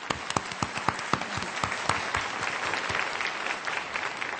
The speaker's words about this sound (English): Now, let's give a warm round of applause to welcome Dr. Wu.